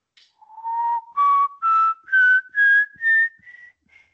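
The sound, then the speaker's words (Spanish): A person whistles a slow, eerie rising phrase of about six clear, sustained notes, each climbing higher than the last, fairly loud, ending in a softer fading tone, imitating the whistle of El Silbón, the legendary whistling figure. No talking. “Fue buen silbón, fue un buen silbón.”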